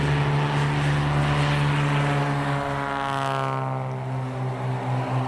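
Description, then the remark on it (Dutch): A small twin-engine propeller plane drones steadily and loudly, its engine hum holding a low throbbing pitch that shifts slightly as it passes; no voices. It is flown by a professional pilot between remote villages, carrying people and cargo. “Hij vliegt hier als beroepspiloot, met kleine tweemotorige vliegtuigjes tussen die verschillende afgelegen dorpjes om mensen en vracht te vervoeren.”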